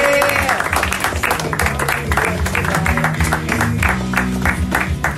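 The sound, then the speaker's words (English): An audience claps steadily for several seconds, a dense rattle of many hands, with cheering voices and a low background hum mixed in. “One more round of applause for our favorite troll”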